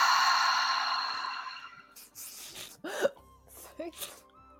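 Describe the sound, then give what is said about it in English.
A deep, breathy exhale through the mouth, heard as soft airy rushes after a fading ringing tone, with a couple of brief, faint vocal squeaks between the breaths. “And exhale.”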